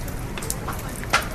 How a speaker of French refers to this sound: Il pleut ce matin sur la base militaire de Quezon à Manille, où une vingtaine de militaires des opérations civiles de l'armée s'affairent autour d'une table avec des bouteilles en plastique vide, de la colle et des morceaux de tôle.